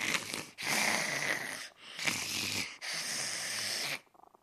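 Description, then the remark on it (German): Tiger, an old, fluffy tomcat, dozing, purrs loudly, a harsh, snore-like rasp that comes in four long breathy pulses alternating with each inhale and exhale, then fades to a faint rustle. No one speaks. “Wenn er döst oder eingeschlafen ist, schnurrt er sehr laut.”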